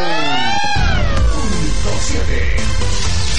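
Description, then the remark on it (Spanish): A single drawn-out cat meow rises and falls at the start, then loud, busy electronic dance music with a heavy beat takes over for the rest. “¡Gato!”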